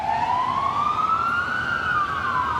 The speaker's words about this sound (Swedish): Följt av ambulanser som i illfart åker mot krigets centrum.